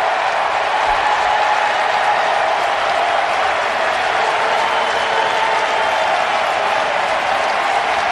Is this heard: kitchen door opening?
no